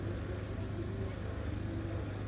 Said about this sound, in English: Crews do the final checks and the final things as the car comes past on a tow road. It's a Corvette.